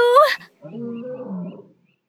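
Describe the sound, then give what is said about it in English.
A lion lets out a short, rising roar, then a deeper, rumbling roar that lasts about a second, loud, with no one talking. “Oh, the snakes! The lions! What can we do?”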